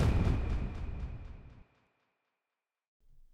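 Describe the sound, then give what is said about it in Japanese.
A deep, booming burst of fireworks at a display viewed from a spot with no buildings blocking the view rumbles loudly for over a second with crackling echoes, then cuts off into silence before a faint low thud follows. “周りに邪魔な建物がないから花火がとっても見やすいね。”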